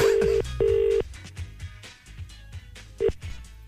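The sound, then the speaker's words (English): A phone line rings on an outgoing call to McLaughlin's Bookshop in Westport: a steady double-beep ringback tone, then a brief start of another ring, over quiet background music. “Hey, it's ringing.”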